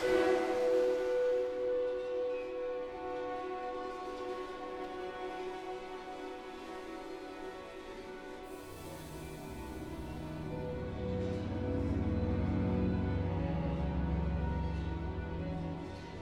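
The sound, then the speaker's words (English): The opening of a piece by Adams: a dense cloud of noise as percussionists scrape cowbells, automobile brake drums and sizzle cymbals, amplified and manipulated by a sound designer; shrill, sustained metallic tones over grinding noise, with a heavier low rumble swelling in the second half. No voices are heard. “what Adams calls a cloud of noise produced by the percussionists as they scrape on a variety of metallic objects like cowbells, automobile brake drums, and sizzle cymbals.”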